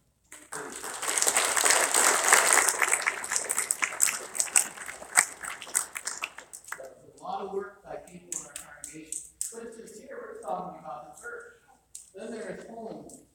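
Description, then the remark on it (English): A church audience breaks into loud, steady applause to thank the people who keep the church running, a dense wash of many hands clapping for about six seconds, then it cuts off and a voice starts talking. “That's why I applaud you. What about you guys?”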